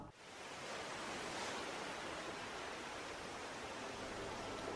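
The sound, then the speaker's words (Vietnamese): A steady, continuous roar of sea surf washing against a line of rocks, with no distinct individual crashes. The hiss stays even throughout, fairly soft, with no voices. “Đi dưới hai hàng cây còn đẫm hơi sương trong rì rào tiếng sóng biển dỗ vào rặng đá.”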